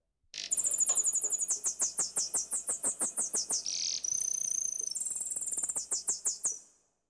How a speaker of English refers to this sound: A nightingale began to sing.